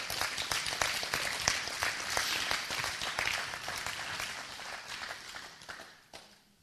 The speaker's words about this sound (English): Can we give the Lord a big hand clap of praise?